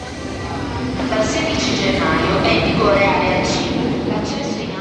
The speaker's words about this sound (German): Menschen stehen dicht gedrängt in einer U-Bahn-Station, das obwohl der Fahrplan stark ausgebaut worden ist.